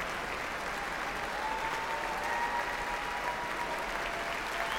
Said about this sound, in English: John Williams now motioning to the stage door, asking David Newman to come back on stage to receive the applause of this audience, as well as acknowledging the young musicians of the BUTI Young Artist Program.